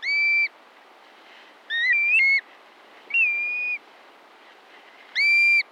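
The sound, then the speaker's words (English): Black-bellied plover calls ring out four times: clear, plaintive whistles, some rising and slurred, spaced a second or so apart over a soft background hiss, loud. “Shortly after the summer solstice, the adult black-bellied plovers begin their southbound migration without their young.”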